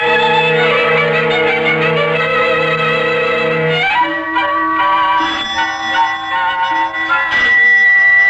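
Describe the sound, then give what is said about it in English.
A loud doorbell rings alone with sustained, resonant chiming tones, shifting to a second ringing pitch partway through and keeping on for several seconds with no voices. “why doesn't Mrs. Murchison answer that bell?”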